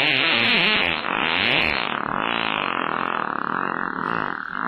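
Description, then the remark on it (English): A long, loud, buzzy fart-like sound made by someone blowing against their arm, warbling and fluttering in pitch for several seconds without a break. “I mean, this just must be a guy blowing into his arm. That doesn't sound like farts.”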